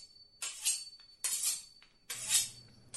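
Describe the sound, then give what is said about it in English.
Knives being sharpened: three long, bright metallic scrapes, each lasting about half a second, sweep along in a steady rhythm like a blade drawn across a sharpening steel, with a thin high ring lingering between strokes. “Knives being sharpened.”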